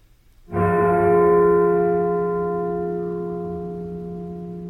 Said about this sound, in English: The toll of the bell from Dracula's castle means it's time to answer some listener mail.